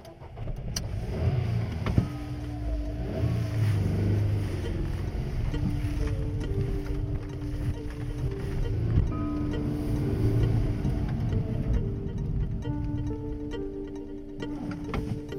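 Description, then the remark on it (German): A car engine hums steadily as the car is started and driven along, following another vehicle, a continuous low rumble with shifting tones and road noise throughout, fairly loud, with no voices. “Ich starte jetzt den Wagen und versuche, ihm zu folgen.”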